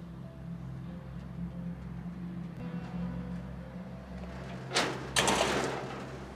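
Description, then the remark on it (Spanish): The large gate of a house is closed: near the end come two loud, harsh metallic bursts, a sliding scrape and a clanging shut, over a steady low rumble like an idling engine. Nobody speaks. “Labarde cierra el portón.”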